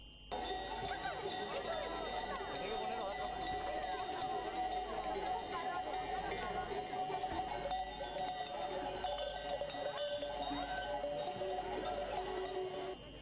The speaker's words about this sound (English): Shepherds accompanied their sheep and goats moving through the streets of the Spanish capital.